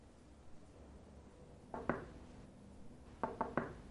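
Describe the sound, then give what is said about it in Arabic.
A mother raps her knuckles on her daughter's bedroom door: a quick pair of knocks, a short pause, then three more in steady succession, with no voices over a quiet background. “بنتي افتحي الباب.”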